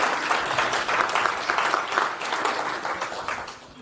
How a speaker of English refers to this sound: So everyone, if we could have a round of applause, please, for Bradley Kuhn on how does InterSource impact on the future of upstream contribution?